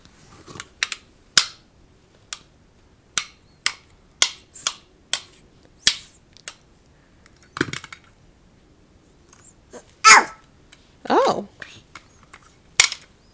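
Toy pieces click together in a quick, irregular series of sharp snaps, about a dozen in all, mixed with a few longer rattling and scraping bursts as the pieces are handled.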